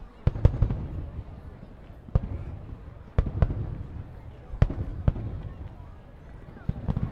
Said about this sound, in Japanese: うわ、目の前全部花火だよ。すごーい。